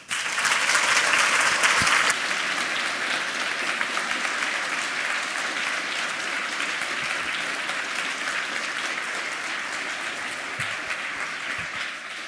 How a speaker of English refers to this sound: A big applause.